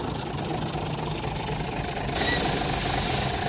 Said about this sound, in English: July the 13th, 1935. Towards evening, Bond's lorry came lumbering to the Rock Holes.